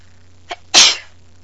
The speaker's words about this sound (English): See, I have a cold, and the sneezes are just sort of hanging there. They're not really.